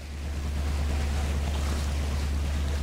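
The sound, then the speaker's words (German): A small motor sailer's engine chugs steadily, a deep rhythmic throb beneath a wash of water and wind rushing past the microphone, with no voices, as the boat passes small bays among the Croatian islands of the Kvarner Bay. “Unser Schiffchen tuckert vorbei an kleinen Buchten.”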